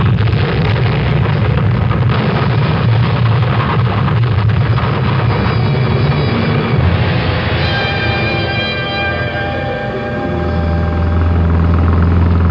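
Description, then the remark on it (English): A loud, steady truck engine rumbles throughout while riding in the truck, deep, with a broad roaring wash of road and motor noise that shifts slightly in pitch toward the end. No one speaks. “I've never ridden in a truck before”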